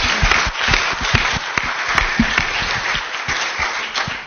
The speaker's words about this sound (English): I think that we need to give them another big round of applause for the work you've done.